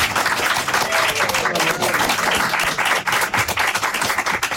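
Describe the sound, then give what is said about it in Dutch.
A crowd applauds steadily throughout, dense and loud, with a few faint voices or cheers mixed into the clapping, welcoming a guest. “Mag ik een heel groot applaus voor Niek Barendsen?”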